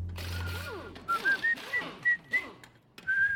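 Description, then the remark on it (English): A person whistles a short, bright tune in a series of clipped rising notes, with a low hum and faint clatter in the background. “Whistling bother you, Larry?”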